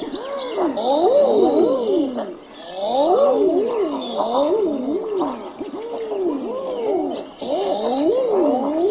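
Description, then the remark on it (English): A chorus of male common eider mating calls, large ducks of North Atlantic and Pacific coastlines: overlapping cooing 'ah-ooo' notes that rise and fall in pitch, many birds calling at once, loud, with no talking. “This is the mating call of the male common eider.”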